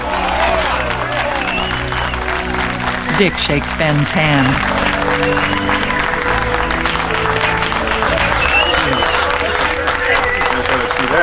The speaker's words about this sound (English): Now, outside the mill, workers on a raised scaffolding cover the Atlas Steel sign with one that reads Cameron Steel. Below, a dozen workers applaud.